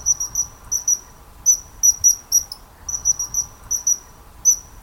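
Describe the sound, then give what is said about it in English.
The call of a bird that darts along rivers: a high, thin, sharp piping note repeated in quick clustered bursts and rattles over a faint low rumble, with short gaps between the bursts and no voices. “So I think we'll pause here for a second to listen to the call.”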